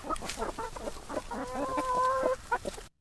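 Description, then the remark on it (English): Chickens on a farm cluck in quick, choppy bursts, with one hen letting out a longer drawn-out call in the middle before the clucking resumes briefly and stops. No one speaks. “We've met some lovely people, and especially when they come with kids and they get to feed the chickens and collect the eggs themselves, they get the whole farm experience, because some kids just never get to see that.”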